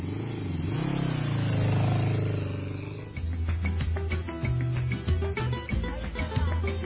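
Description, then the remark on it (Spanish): An old, dirty motorcycle engine roars steadily as its rider sets off from home for work, then drops into a rough, uneven idle with rapid sputtering pops and clattering knocks. “Se alista, se coloca sus jeans y camisa desgastada, sus botas de caucho y sale de la casa con su compañera de viaje, su vieja y sucia motocicleta.”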